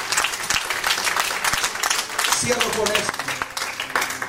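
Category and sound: crowd, audience applauding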